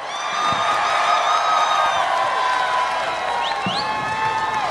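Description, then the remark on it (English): A large rally crowd in Washington, D.C., supporting then-President Donald Trump, cheers loudly and steadily as Congressman Madison Cawthorn is welcomed, with shrill whoops and whistles rising above a dense roar and scattered clapping throughout. “Wow, this crowd has some fight in it.”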